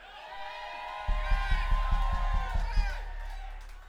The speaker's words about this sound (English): There's a lot of yelling going on out there, and I like it.